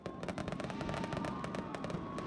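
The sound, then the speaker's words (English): A loud, continuous barrage of New Year fireworks as crowds in the streets of Brasilia, Brazil, welcome in 2019: rapid, overlapping bangs and sharp crackles in an irregular, dense rhythm, with no single voice standing out from the din. “The sound of crowds out in the street in Brazil's capital, Brasilia, last night, welcoming the new year in traditional fashion.”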